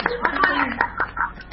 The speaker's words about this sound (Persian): و تشویقتون کردیم؟ نه. تشویق میکنیم.